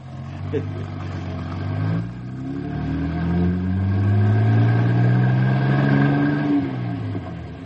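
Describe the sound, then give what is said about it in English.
The heavy engines of two buses carrying 50 boys rumble and rev steadily as the buses drive up to a camp in the forest, their pitch rising and falling, growing louder over several seconds with a continuous low drone. “As soon as the buses get close to camp, all the animals in the forest will head for the hills.”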